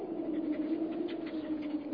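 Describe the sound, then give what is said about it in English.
A dog left outdoors whines steadily and pants softly, sounding muffled. The whimpering drones on without pause and no one speaks. “Maybe we should let the dog in.”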